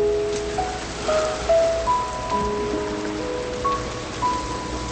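nature, rain falling

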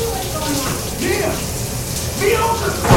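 household object, shower water running

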